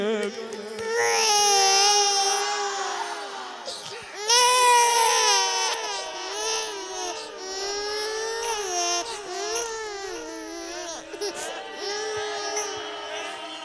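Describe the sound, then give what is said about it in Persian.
A baby cries loudly and continuously, with wailing, strained bursts rising and falling in pitch, without any talking. “این بچه گلوش چقدره، چه گریه ای میکنه.”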